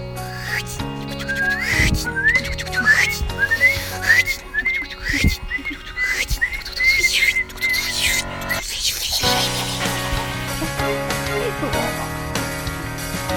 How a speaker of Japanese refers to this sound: 続きまして、つくつく帽子。